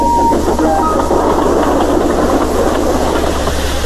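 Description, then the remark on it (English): Thomas, a steam tank engine, puffs into a station, loud, its steady rumble and rhythmic chuffing clatter running without a break and fading only slightly toward the end. No one speaks. “They arrived early at the station. Thomas puffed in.”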